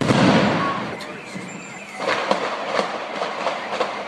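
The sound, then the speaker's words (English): A rumbling, noisy stretch gives way to a series of sharp, irregular bangs and pops of gunfire and thrown bombs exploding, fired and thrown at police officers, over steady background noise. “And then to wake up to that, trying to digest what he was telling me, and then hearing the radio in the background and hearing another explosion just brought me back to reality”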